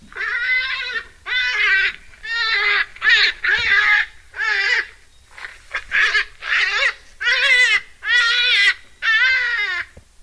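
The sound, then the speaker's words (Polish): A recorded hare call, played by pressing a button beside an animal exhibit: a series of about a dozen loud, strained wailing cries in quick succession, each a second or less, harmonic and shrill, strongly resembling a crying baby. “Ja sugeruję zająca, bo jest to dźwięk zaskakujący.”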